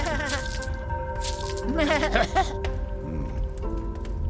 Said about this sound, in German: Ich übergieße deine Ziege jetzt erstmal mit heiligem Wasser.